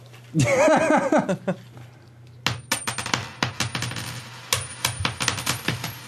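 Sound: coins dropping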